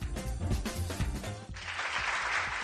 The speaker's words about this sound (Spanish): Y vamos con este aplauso porque el Teatro Zorrilla de Valladolid va a coger hoy mismo una gala solidaria para recaudar fondos para los afectados por el terremoto de Turquía y de Siria.